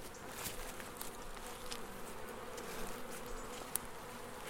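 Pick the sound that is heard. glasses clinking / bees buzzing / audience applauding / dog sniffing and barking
bees buzzing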